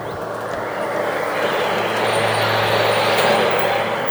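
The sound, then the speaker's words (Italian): Heavy trucks carrying building materials to construction sites rumble past on a road during the day, their broad roar swelling over a few seconds as a low engine drone holds steady underneath. “Durante il giorno, il canto del mare lo cancellano le grida dei camion che trasportano il materiale edile per i cantieri, delle cisterne che trasportano l'acqua.”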